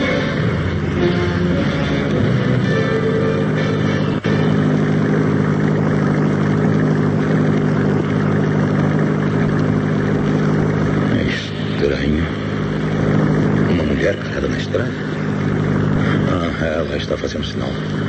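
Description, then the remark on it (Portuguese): A car engine runs steadily and fairly loud throughout, a continuous low droning hum with a constant rumble, briefly shifting in tone partway through. “Parece que seu carro enguiçou e precisa de ajuda. Vamos ver. Vou parar.”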